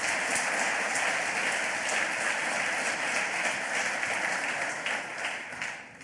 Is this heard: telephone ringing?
no